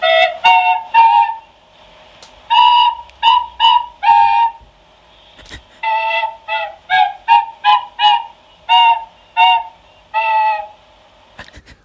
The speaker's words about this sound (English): I'm going to play two instruments. One's a tin whistle and one's a recorder. Wow. At the same time. Two nostrils. This is Peas Pudding Hot.